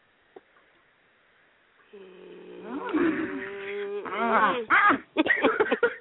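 A cat meows, starting with a long, steady drawn-out cry and breaking into a string of loud, wavering meows and yowls that rise and fall in pitch.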